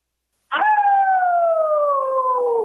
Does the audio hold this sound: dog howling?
yes